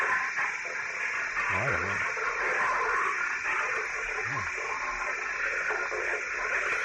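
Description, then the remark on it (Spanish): Two short, low, wavering growls of a thylacine rise briefly out of a steady wash of loud hiss and static, like an old, worn film recording. “El caso es que fue filmado hace varios años y, según dicen, estos serían sus gruñidos.”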